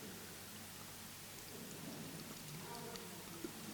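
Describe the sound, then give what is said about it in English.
Water from a bottle pours steadily into a blue bowl, a continuous soft hissing splash that runs for several seconds, fairly quiet, with a slight gurgle toward the end. “Now, we're going to pour this water, into some of it, into the bowl.”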